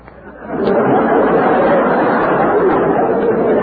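A dense murmur of many voices talking at once, swelling in after a quieter start and holding at a steady, loud level with no single voice standing out.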